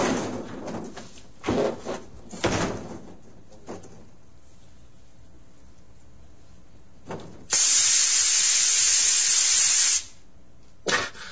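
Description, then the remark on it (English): A spray nozzle sprays a person's body, letting out a loud, steady hiss lasting a couple of seconds, preceded by a few short bursty clatters and followed by one brief final spurt. “Spray, count, pat, and turn.”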